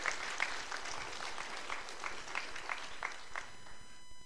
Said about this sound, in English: And we have a couple anniversaries here. One's been married 58 years and one 50 years, and we're just so honored. So give them a round of applause for that.